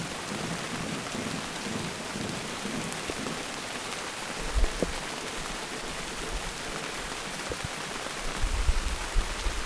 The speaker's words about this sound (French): Il fait gris, il pleut, plus fort, ça coule dans mon cou.